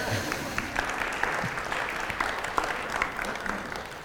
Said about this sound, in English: There was one clap. You can clap.